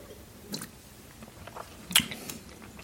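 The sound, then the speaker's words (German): Quiet mouth sounds of someone sipping and swallowing dry German sparkling wine (Sekt), with two brief wet clicks standing out against soft background hiss and no talking. “Ja, dann schlucken wir doch mal.”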